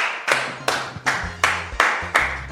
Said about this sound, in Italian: Questo è un momento applausi.